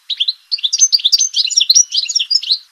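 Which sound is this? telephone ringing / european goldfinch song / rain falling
european goldfinch song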